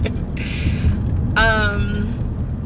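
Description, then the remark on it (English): A steady, low rumble of a car driving around, heard from inside the cabin, continuous, with two brief voiced sounds from a person rising over the road noise. “I am driving around right now, so this is not going to be naughty.”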